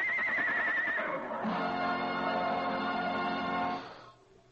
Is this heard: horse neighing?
yes